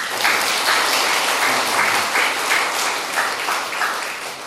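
An audience applauds steadily for several seconds, a dense wash of many hands clapping at a fairly loud, even level with slight surges, and no voices over it.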